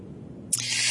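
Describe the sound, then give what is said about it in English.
A breathy, airy rush of air slowly blown out through the mouth after a deep breath in, starting abruptly halfway through and continuing steadily after a quiet moment. “And I'm taking a deep breath in and slowly breathing out through my mouth.”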